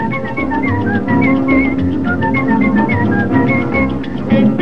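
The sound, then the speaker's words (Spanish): A person whistles a lively, bouncing tune in short repeated phrases, set over steady instrumental music with a thumping low beat that plays throughout. “negrita de Cervantes, que contestaba chiflando así.”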